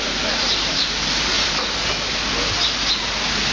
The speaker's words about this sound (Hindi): पानी ऐसा ही बरसे ताकि ये जो बाहर बैठे लोग हैं वे इसमें बैठना सीख लें तो बहुत अच्छा रहेगा।